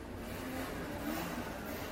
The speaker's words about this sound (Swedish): En moped kommer körande i hög hastighet in på gågatan. På mopeden sitter 2 killar.